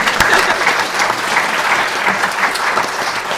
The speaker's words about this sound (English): I want the audience to give Spirit a round of applause. Let's have a round of applause.